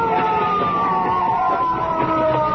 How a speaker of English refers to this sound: Wait, listen. A police car.